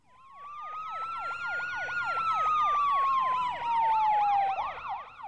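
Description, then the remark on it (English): Two emergency sirens, from a police car and an ambulance parked in front of a building, blare together, one fast warbling yelp over a long wailing tone that slowly rises and falls. They are loud and hold steady throughout, with no voices. “The narrator woke up one day to the sound of blaring sirens. A police car and an ambulance were parked in front of our building.”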